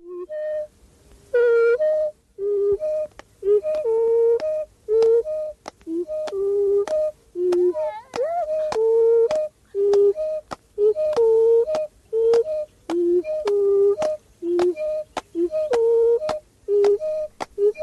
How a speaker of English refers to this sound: Yes, alternately, mm-hmm. yeah. regularly alternating one sound, which is whistle, and another, which is song. And it makes a song. And it gets a little more complex. Here brings in also a clap to keep the beat.